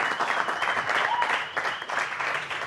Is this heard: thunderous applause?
yes